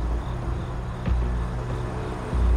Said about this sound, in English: I think somebody just got in the car.